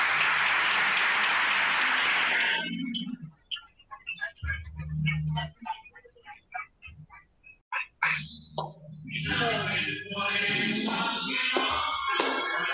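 An audience applauds a first-prize winner receiving a diploma: a dense wash of clapping that breaks off into scattered individual claps, then swells back into steady, full applause until the end.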